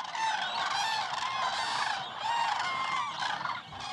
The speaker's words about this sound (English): That creates a home for hundreds of other species. If you're a serious birder, it's a good place to hunt for elusive species that appear just for a second. Or you can wade through a sea of cranes and just listen.